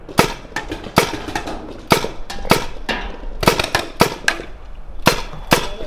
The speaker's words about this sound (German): Ich weiß nicht, ob ihr es gehört habt. Die macht so ein Bing, Bing, so ein sehr metallischen Geräusch, hat sie nach jedem Schuss. Darin erkennt ihr auf jeden Fall von euren Gegnern, wisst ihr, was der genau spielt.